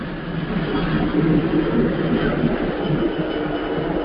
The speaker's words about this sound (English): Waiting for the plane to pass over.